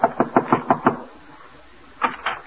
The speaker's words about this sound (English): Betsy has determined that Brian Donlevy shall be her leading man in the upstairs Greek art theater. So now, with his laundry under her arm, she's knocking at the door.